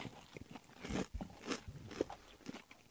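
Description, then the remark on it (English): Crunching as someone bites into a crisp fried cheeseburger-filled dumpling, followed by several sharp, irregular chewing crunches over a few seconds, with no talking. “Ooh, crunchy.”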